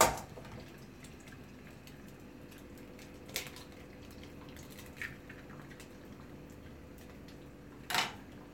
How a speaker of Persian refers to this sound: بعد که تخم مرغ شکستم با قاشق فقط صافش میکنم توی مایتاب. حالا اگه بخواین که هم میزنید، اگه نه که صافش میکنی با قاشق که حالت یه دست باشه